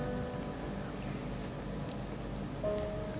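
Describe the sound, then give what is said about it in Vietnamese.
Steady, dense patter of rain fills the scene, a continuous soft hiss with no pauses, moderately loud and even throughout, with no voices. “trộn lẫn với tiếng mưa rả rích, làm cho những cảm xúc trong tôi cứ trực vỡ òa.”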